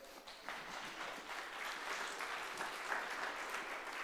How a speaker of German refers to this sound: Mal einen großen Applaus für das Wok, die Wok-Leute.